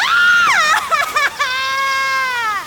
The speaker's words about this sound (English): Was that a scream? She glanced around, but didn't see anything besides the same thick grass and low trees that she'd been walking through for several minutes. Did I imagine it?